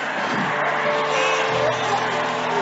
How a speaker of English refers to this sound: Somebody was trying to shout, scream.